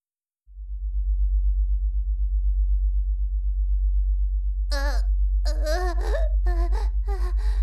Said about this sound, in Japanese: 今回選んだオプションは低周波の誘導音源。これ聞きながらしてみよう。